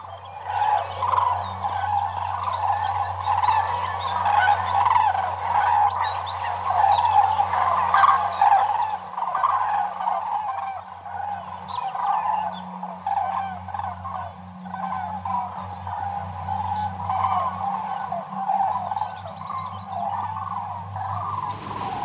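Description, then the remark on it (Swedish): A flock of common cranes bugles continuously in flight, many rolling, trumpeting calls overlapping into a steady chorus, with a low constant hum underneath and no talking. “Och ljudet vi hörde nu är alltså flygande tranor.”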